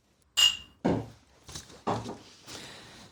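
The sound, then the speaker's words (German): Glasses clink once in a toast with a bright, short ring, then a few dull thuds and knocks follow, like glasses set down on a table. No one speaks. “Und erstmal Prost. Ja, Prost.”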